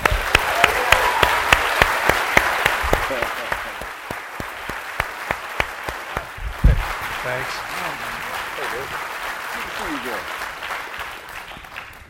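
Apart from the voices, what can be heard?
audience applause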